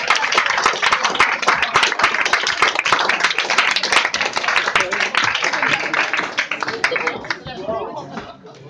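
An audience applauds steadily, with dense, crackling clapping that holds strong for several seconds before thinning out and fading toward the end.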